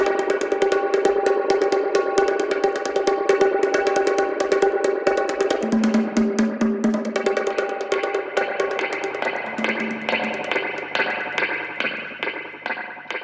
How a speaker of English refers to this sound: It's two boots against a laminate floor into a spring reverb. And those boots, it's also a bit cartoonish, like creating sounds for a cartoon movie or something. Low budget, but cool.